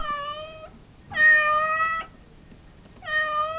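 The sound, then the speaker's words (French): A cat meows frantically while running wild around a room, knocking things over, three loud drawn-out cries in quick succession, the middle one longest, with no other sounds around them. “Il se dressa sur ses pattes de derrière et continua à faire le fou tout en poussant des miaulements frénétiques.”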